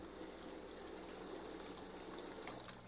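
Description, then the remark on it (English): Water runs steadily from a hospital-type sink fixture, a continuous, even rushing hiss that holds for the whole stretch at a fairly soft level, with no one talking. “Yeah, it goes on and off and on and off. Let me put a little more water in it and see if that'll make it go.”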